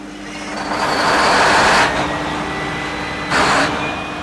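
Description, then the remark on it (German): The engine of the Rudolf Kloß, a 27-metre purpose-built ship for the state of Berlin that sails Berlin's waters on summer nights, is started by the machinist at 21:30 in the evening, its broad mechanical roar swelling over a steady low droning hum, then easing back, with a brief hissing surge near the end. No one speaks. “Abends um 21:30 startet Maschinist Andrzej Brilowski den Motor der Rudolf Kloß.”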